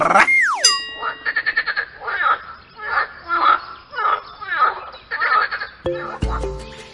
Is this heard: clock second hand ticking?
no